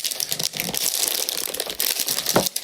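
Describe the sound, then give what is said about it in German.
Continuous crinkling and rustling of the sealed inner aroma packaging of English Breakfast tea being tugged and worked at to open it, with sharper crackles and a brief snap near the end, no voices. “Ich muss die Aroma-Verschweißung des Tees öffnen.”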